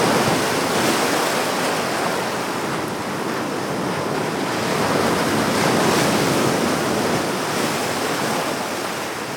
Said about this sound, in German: Wer noch nicht in München war, sondern hier mit uns gerade zum ersten Mal herumläuft, der hat sich vielleicht gerade am Ende so ein bisschen gewundert über dieses Brandungsgeräusch da im Hintergrund. Aber nein, wir haben uns nicht vertan.